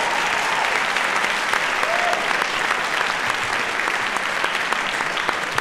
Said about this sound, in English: I just want to ask for a round of applause for the way they did this.